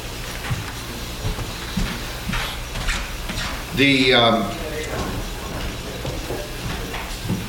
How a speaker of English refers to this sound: Yeah, would you close the doors